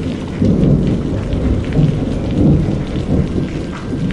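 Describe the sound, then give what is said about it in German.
Steady, dense heavy downpour during the drive to the 5-Seen Filmfestival at Starnberger See, hissing across a broad wash of sound, with deep rumbling swells of thunder rolling underneath, loud throughout, with no voices. “Bei der Anfahrt hat es unheimlich geregnet und der Film wurde dann aber Gott sei Dank nach innen ins Kino verlegt.”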